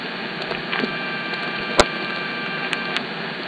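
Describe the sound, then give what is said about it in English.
A sharp click of a telephone subscriber picking up on a dialed phone line, enhanced, cuts through steady, muffled telephone-line hiss, with a few fainter ticks scattered before and after. “I guess the sound of that subscriber picking up was a little hard to hear.”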